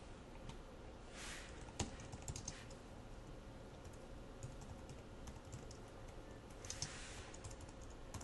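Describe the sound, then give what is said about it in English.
Quiet computer keyboard typing while writing JavaScript code, hitting the tab key for indentation: a few scattered keystroke clicks and one sharper key tap over a steady low background hum, with no one speaking. “I'm getting auto for indentation levels, so I can just hit the tab on my keyboard and I don't have to worry about using the space bar like a dozen times to line everything up just absolutely correctly.”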